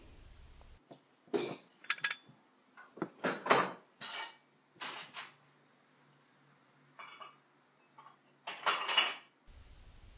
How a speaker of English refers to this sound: Yeah, let's just get these dishes done.